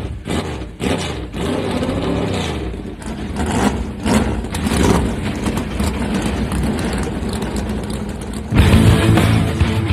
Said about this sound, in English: Drivers, start your engines! The command has been given. Let's crank them up.